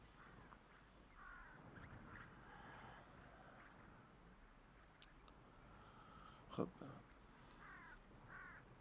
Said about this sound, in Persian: بابا، دارن کجا میرن؟ کیا؟ کلاغا.